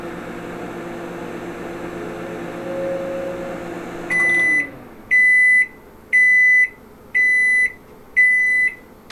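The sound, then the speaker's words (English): A microwave oven hums steadily while heating a cup on its turntable for 20 seconds, then stops and gives five loud, evenly spaced electronic beeps, each about half a second long, to signal it is done, with no talking. “I just got beeps letting me know.”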